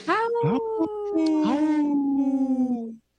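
Several wolves howl together in long, overlapping, wavering notes that rise and slowly fall, fairly loud, for about three seconds before cutting off abruptly.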